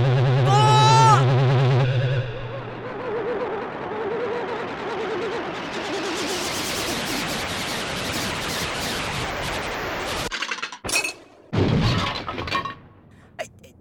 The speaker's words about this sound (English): Or even on my third. I smashed the windscreen of a flying saucer.